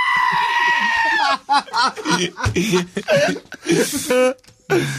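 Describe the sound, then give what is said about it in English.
A female goat in a video lets out a long, loud, human-like bleat resembling a shouted "who," followed by a rapid run of shorter, choppy bleats and calls, all prominent. “Oh, they are hooing.”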